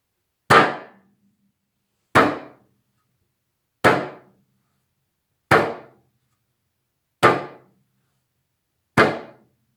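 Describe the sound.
Six loud, evenly spaced metallic bangs of kitchen utensils, each a sharp clang that quickly fades, struck at a slow, steady pace to portray the bear in Svetlana Makarovič's fairy tale Pod medvedovim dežnikom. No voices.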